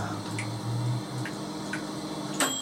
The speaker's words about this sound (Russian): С крана капает вода.